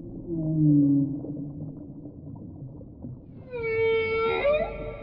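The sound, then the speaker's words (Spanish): A whale sings to communicate with other whales, in long, deep moaning tones that slide slowly in pitch, then a brighter, higher call with rich harmonics rises and bends, all over a low underwater rumble. “Un sonido tan profundo y tan melodioso que parece tocar el alma de todo el océano.”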